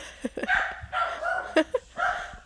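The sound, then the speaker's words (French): A dog barks several times in quick, uneven bursts, with sharp yaps mixed among longer harmonic barks and a short whine-like note. “Désolé, mon chien, encore des problèmes sociaux.”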